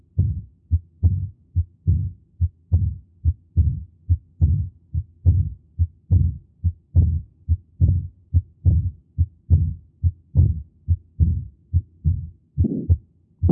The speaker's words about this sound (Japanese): 中期に逆流性の雑音が聞こえているわけです。